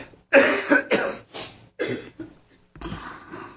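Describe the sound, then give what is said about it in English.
A fairly loud fit of coughing: five or six harsh bursts in quick succession with brief gaps between them, and no talking. “Thank you, Mary, for the cough drop.”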